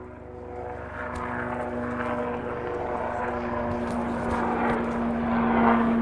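A CH-53 heavy military helicopter passes across an open valley in California at eye level, its engine and rotor making a steady, loud droning roar that swells slightly toward the end. No one speaks.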